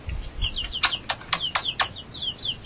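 Eight baby chicks peep in a rapid, overlapping chorus of shrill, high chirps, fairly loud, with a brief low rumble at the start and no talking.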